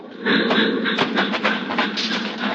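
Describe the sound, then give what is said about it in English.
A train rumbles past, slowing for a crossing about half a mile from Marcus Junction, a dense, steady roar broken by rhythmic metallic clacks from the wheels passing over the rails, with no voices. “The train rolls by, slowing, and the crossing bell warns that death is here.”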